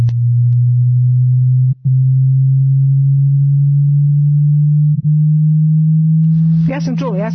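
A loud, steady low hearing-test tone hums for several seconds, broken by two brief gaps and edging slightly higher in pitch each time as the frequency is raised, before a voice begins speaking at the end.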